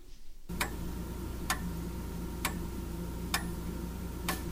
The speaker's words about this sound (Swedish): Det är natt och mina klockor tickar. Jag tycker om tickandet. Annars brukar jag inte göra det, men när jag väntar dig hör jag det.